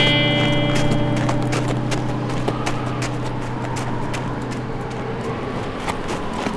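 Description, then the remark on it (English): Hooves of more than one horse clip-clop in a steady, uneven walking rhythm as two riders start their horses up a climb, over a constant low droning hum, the hoofbeats fairly crisp. “Slade and Lyle started their horses up the climb.”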